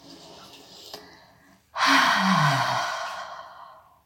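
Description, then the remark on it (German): A long, deep breath: a quiet, airy inhale, then a sudden loud, breathy exhale that trails off like a heavy sigh, with no talking. “Du kannst nochmal ganz tief atmen.”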